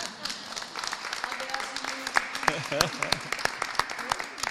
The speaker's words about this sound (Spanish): Merecería un aplauso, ¿no? O algo.